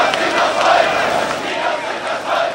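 A huge crowd of about 70,000 demonstrators chants in unison in Leipzig on 9 October 1989, a dense, steady roar of many voices with rhythmic swells of shouting, loud throughout with no single voice standing out.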